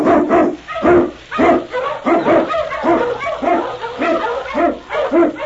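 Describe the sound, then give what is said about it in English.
A pack of Husky sled dogs, led by King, an Eskimo lead dog, barks and yips excitedly while blazing a trail through storm and snow in the Yukon. Many overlapping barks form a rapid, continuous chorus, loud throughout, with no one speaking. “On you Huskies! King, the swiftest, strongest of Eskimo lead dogs, blazes the trail through storm and snow for Sergeant Preston as he meets the challenge of the Yukon.”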